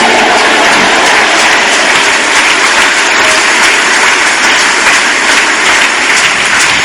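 A crowd claps steadily and loudly for several seconds, a dense wash of many hands with no pauses and no voices standing out.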